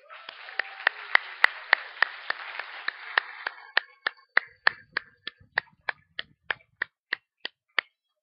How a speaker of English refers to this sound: Let's give our kids a hand.